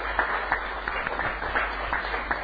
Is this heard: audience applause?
yes